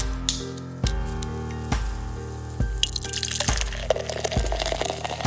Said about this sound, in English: You hear that sound and you know that I'm pouring a beer. You'll want to pour this one in a glass, my friends, and enjoy the beautiful amber color of Bulldog Amber Ale by the good folks over at Half Pints Brewing Company.